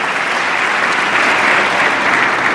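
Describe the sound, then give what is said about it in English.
Democrats in the audience at President Obama's State of the Union address applaud loudly and steadily for extending unemployment benefits, a dense, continuous wash of clapping hands that holds at an even level throughout with no voices standing out. “Big Democratic applause here for extending unemployment benefits that the Congress let expire.”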